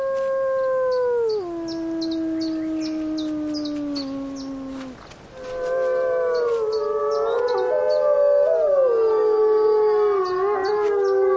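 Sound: wolves howling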